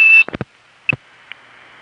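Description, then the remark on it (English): A steady, high-pitched whistle tone, whistled to disconnect a phone trunk, sounds for a quarter second, then a few sharp clicks and thumps, a brief chirp of the same tone, and a faint line hiss, as the line times out to a recording. “Now that he's whistled off this trunk, it's going to time out to the recording from whatever foray we went through.”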